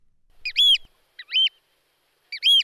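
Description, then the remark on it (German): A Eurasian oystercatcher gives three loud, shrill piping calls, spaced roughly a second apart, clear against an otherwise silent background, in the Wadden Sea off Sylt. “Ein Austernfischer im Wattenmeer vor Sylt.”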